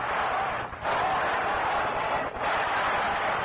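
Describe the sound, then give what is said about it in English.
A dense, steady roar of a baseball stadium crowd during a game, continuous murmur and chatter blending into a wash of noise with two brief dips, without distinct voices standing out. “You can hear the crowd in the background.”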